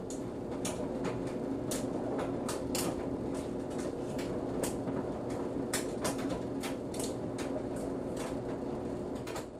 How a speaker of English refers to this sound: Yeah. It was a dryer. It was and the jacket zipper thing was against, banging against the dryer. That was my jacket and my zipper.